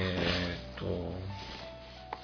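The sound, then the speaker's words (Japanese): The cardboard box of the hidden-role board game "紙" (Kami), sold at Banesuto, being opened: a soft rubbing, scraping slide of the lid, a low hum underneath, and a single sharp little click near the end. “ちょっと待てよ。今開けますね。”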